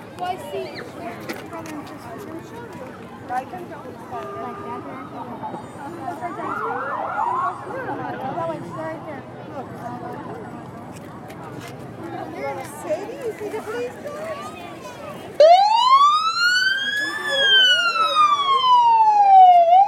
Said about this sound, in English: The cop car is only 100 foot away.